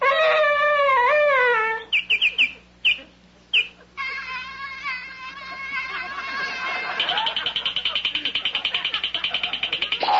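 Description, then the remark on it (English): A loud, wavering dog howl rises and falls, breaks off into a few short yelps, then resumes as a long, sustained howl that ends in a pulsing, quavering tone. “That's the dog that hangs around supermarket parking lots and begs for Twinkies.”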